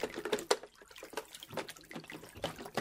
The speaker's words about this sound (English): Oops! The soap slipped into the water.